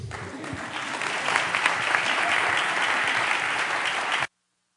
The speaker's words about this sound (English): Well, the clapping sounds loud in here. You know, I'm not used to that. I when I'm in our churches in Valley View or Lorraine, people clap and you can't even hear them. You guys are loud clappers.